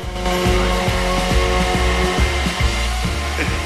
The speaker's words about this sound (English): He's now backcombing it with a hairdryer. He puts the airstream from the hairdryer into his face and mouths hi at the mirror.